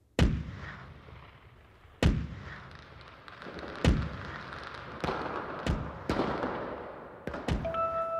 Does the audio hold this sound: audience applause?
no